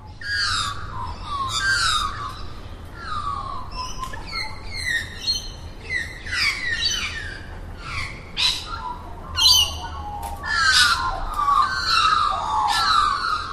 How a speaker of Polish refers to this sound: Innym ptakiem, który ma takie właśnie ptasie trele, jest sroka. Oczywiście australijska sroka. I ona tak bardzo z kolei zawodzi.